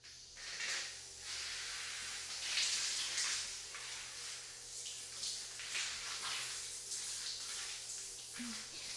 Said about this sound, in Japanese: さてと、湯船に体を浸かる前に体を洗っていくね。こっちに座って。よいしょ、うん、よいしょ。まずは軽く体にシャワーを。